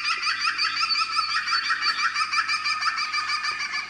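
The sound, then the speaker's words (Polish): A green woodpecker gives its laughing call, a fast, steady series of ringing, slightly descending notes repeated throughout, loud and clear with no one speaking. “To jest najładniejszy z naszych dzięciołów, związany właśnie z dolinami rzek, z olchami.”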